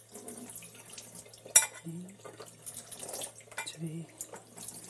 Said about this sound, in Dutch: Ik zal dat in een, die 3 eetlepels hierin doen, in een glazen kom, hè. Dat zal gemakkelijker zijn. En niet zo hard. De kraan een klein beetje zacht zetten.